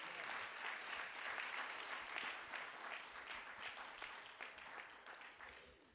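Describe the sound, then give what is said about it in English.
A church audience claps steadily and enthusiastically for several seconds for the children, a dense, sustained wash of hand claps that stays loud throughout before easing slightly toward the end. “Let's give our children a wonderful hand clap.”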